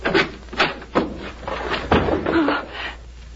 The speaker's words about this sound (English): George, what are you going to do? Open the door of this closet. But you know it's empty.